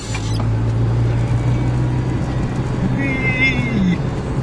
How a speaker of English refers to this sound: I wonder if people are going to get sick of us driving around in cars for podcasts.